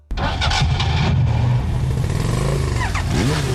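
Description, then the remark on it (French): An engine, started with an Ecobatterie battery, cranks and catches abruptly, then roars loudly and steadily, its pitch rising and sweeping upward as it revs, with no voices present. “Avec Ecobatterie, votre bateau, tondeuse, moto, auto démarre au quart de tour.”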